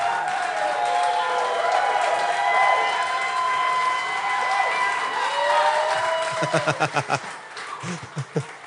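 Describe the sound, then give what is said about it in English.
A crowd applauds and cheers loudly for a guest musician being introduced, with whistles riding over the steady wash of clapping, before it thins out into a handful of separate, fading claps. “It's rude to keep clapping.”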